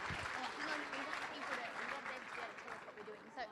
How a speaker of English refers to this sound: Yes, success. Hurrah, come and somebody bring it down to me. Give these guys a clap. Oh, this is amazing.